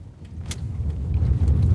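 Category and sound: vehicle, inside a moving car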